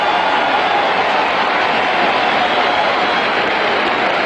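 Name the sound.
racetrack crowd cheering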